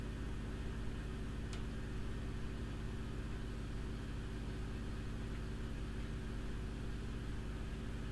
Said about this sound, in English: Oh, here, who's driving up in this car? Is that the police? Oh, damn right it is. The searchlight and everything. Kind of bright there, buddy.